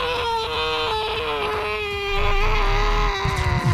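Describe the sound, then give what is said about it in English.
A man screams as something closes over his head, in one long, loud, high-pitched wail that holds a steady pitch for nearly four seconds, with low rumbling noise building beneath it toward the end. “He screams as it closes over his head.”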